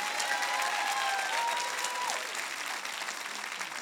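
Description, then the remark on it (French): A church audience applauds steadily for about four seconds, a dense wash of many hands clapping at a fairly even loudness, with a few faint tonal cheers mixed in early on. “Je pensais que vous applaudiriez plus fort que ça.”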